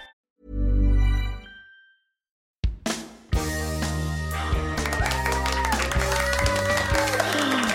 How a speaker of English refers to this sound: Honestly, stop it. That is never, ever going to get old. That is never, ever getting old, guys. I love the applause.